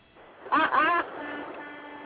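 A big truck's horn, sounded by its driver, toots in two quick back-to-back blasts, loud but thin and muffled as if coming through a phone line, followed by a low steady hum.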